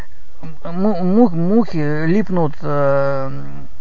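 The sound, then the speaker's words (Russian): A loud voice imitates buzzing flies, making a run of nasal, wavering buzzes that rise and fall like laughter, in several bursts with brief pauses between them. “Мухи липнут на коричневое, да, на что-то. На Обаму он отгоняет. И мухи так смеются.”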